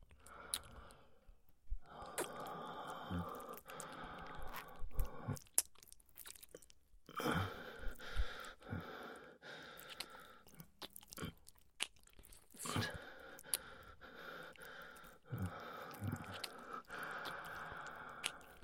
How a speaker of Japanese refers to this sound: 水音、大きくなってきたね。